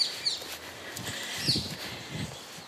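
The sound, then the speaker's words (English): Birdsong in a small park in London in autumn: a few bright chirps ring out over a soft ambient hush, with low, muffled footstep-like thuds from a person out walking. “You might be able to tell from that bird song that I'm in London in a lovely little park where we have parakeets as well as the robins and the blackbirds and the wrens and the sparrows.”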